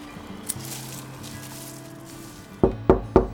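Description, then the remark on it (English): Four firm knocks on the front door of a house in quick, even succession, loud, following a few seconds of soft, steady background tones. “He led the team down rows of orange-colored houses before knocking at the front door of another.”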